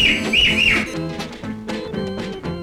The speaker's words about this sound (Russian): Незнакомый переулок завела. Завела! И три раза громко свистнула она.